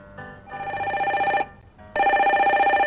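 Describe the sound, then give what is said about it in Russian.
A telephone bell rings loudly in a workshop in two long bursts with a short pause between, its metallic ringing rapid and insistent, with no voices. “Дед был уставший и не хотел брать трубку. Но телефон был настойчив.”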